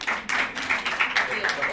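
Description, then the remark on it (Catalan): An audience applauds for a couple of seconds: a dense, steady patter of many hands clapping, moderately loud, with murmuring voices mixed in. “Vale, podeu aplaudir, però una mica d'aplaudòmetre.”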